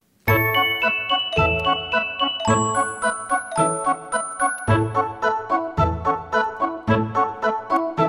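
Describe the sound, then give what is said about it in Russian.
A small bell on the harness of a running horse pulling a sleigh jingles steadily and brightly in a regular trotting rhythm, fairly loud, with ringing metallic tones sustaining between the shakes and no voices. “Лошадка бежит, копытами стучит, колокольчиком звенит.”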